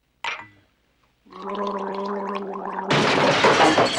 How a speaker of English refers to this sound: He takes a sip from a glass of water.